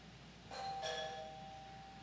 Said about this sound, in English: What is that? It's a doorbell. What does that mean? It means someone is on the other side of that door. It usually means they want to come in.